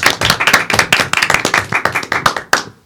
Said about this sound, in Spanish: a la que damos la bienvenida con un fuerte aplauso.